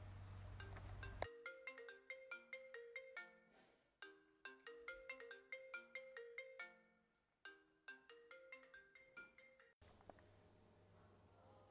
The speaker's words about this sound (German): Oh, mein Telefon läutet.